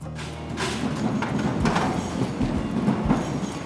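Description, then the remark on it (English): A train rumbles by overhead on tracks directly above a lunch place right next to the tracks, a loud, steady roar punctuated by heavy rhythmic thuds as the wheels pass over rail joints, with no voices. “Yeah, we just heard a train passing by.”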